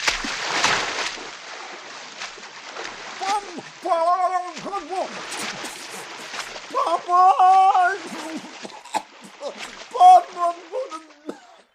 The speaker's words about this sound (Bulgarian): Една рибка мина покрай него, той посегна да я хване, но се подхлъзна и цопна във водата.